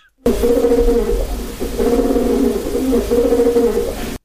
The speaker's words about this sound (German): So, ist nicht beste Qualität, aber ihr wisst ja, wie sich eine Taube anhört.